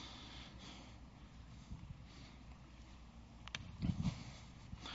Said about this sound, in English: I beg your pardon, I'm just getting over a bit of a cold here, and it shows up all of a sudden, and it's showing up. So, I'm sniffling.